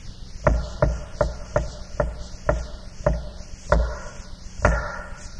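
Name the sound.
knocking on a door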